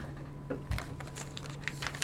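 A plastic water bottle crinkles in a series of soft, irregular crackles and pops, with a low steady hum underneath and a sharper snap at the end. No one speaks.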